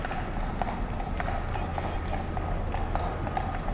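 The hooves of a white horse and a brown horse clip-clop steadily on a hard surface, a brisk run of overlapping steps, over a constant low street rumble.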